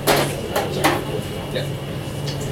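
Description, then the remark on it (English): A bar door swings shut with a few knocking clunks over a low steady hum, with faint muffled voices in the background. “And as the bar door swings closed behind you, the rumbling jungle bass was replaced by the whoosh of a number 8.”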